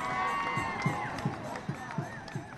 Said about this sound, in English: Back at the marathon, a crowd gathers for blocks around the finish line.